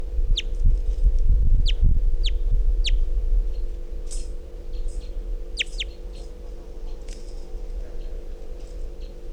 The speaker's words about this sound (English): It's 348. Very weak calls. Wild bird's still here.